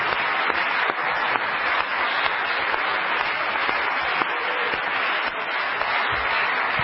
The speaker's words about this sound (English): Is that how you feel tonight? Let's give the Lord a good clap offering of praise.